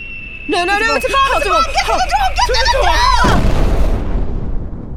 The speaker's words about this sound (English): No, it's a bomb! Get to the door!